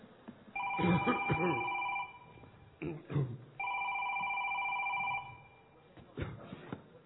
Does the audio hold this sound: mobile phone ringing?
yes